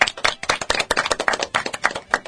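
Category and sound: crowd, applause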